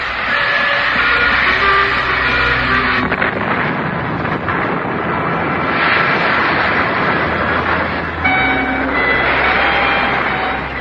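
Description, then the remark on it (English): A German troop train rushes along the tracks, a loud, steady roar of rumbling wheels and engine noise with faint metallic tones, continuous throughout with no voices. “I held my breath for a second, and then the German troop train went hurtling into space and crashed into the icy river below.”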